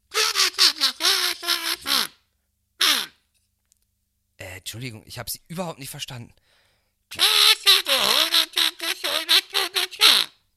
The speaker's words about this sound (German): Könnten Sie mal bitte dieses Kazoo-Ding aus Ihrer Schnauze nehmen?